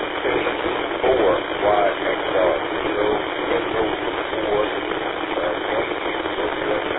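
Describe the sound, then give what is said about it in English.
Steady hissing amateur radio static fills the whole stretch, with a faint, garbled voice from a weak, very noisy third station calling in, briefly breaking through the noise near the start. “And there was a third station which I did not catch. It was very noisy.”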